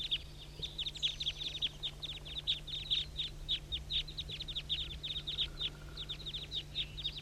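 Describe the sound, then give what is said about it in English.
A flock of about 25 birds calls at once in a dense, continuous chatter of short, high chirps and squawks, overlapping in quick irregular bursts, over a steady low hum. “Start recording the flock. Good grief, there must be 25 birds.”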